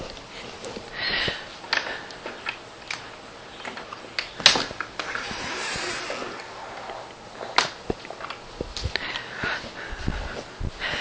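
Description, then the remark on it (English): Several soft, airy, slow diaphragmatic breaths drawn in and let out at an unhurried pace, with a louder sniff-like inhale near the middle, with no talking. “And we feel the diaphragm. And let the diaphragm start breathing us.”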